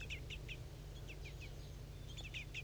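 Two juvenile birds beg a female for food with quick, high-pitched chirps in short clusters of two or three, repeating over a steady low rumble.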